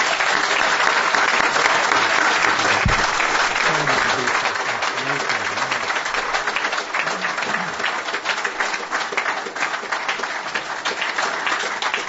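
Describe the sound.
An audience bursts into sustained applause, a dense, steady wash of many hands clapping at an even loudness for the full length, with faint voices murmuring underneath.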